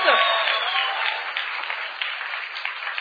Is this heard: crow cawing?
no